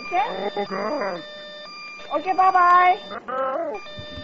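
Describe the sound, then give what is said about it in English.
A steady, high electronic alarm tone sounds from a computer throughout, holding at an even pitch while a person talks loudly over it in bursts. “My computer is doing a fucking alarm.”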